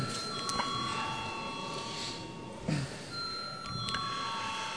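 A steady electric bell rings continuously for the whole clip, sustained and fairly loud, with faint background noise and a few soft knocks; a parliament chamber bell rung before a vote on a bill amending the advertising law in its third and final reading.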